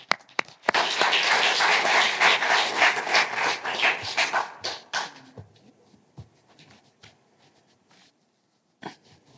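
A crowd breaks into loud, dense clapping that holds steady for several seconds, then thins into scattered claps and fades, with one last isolated clap near the end.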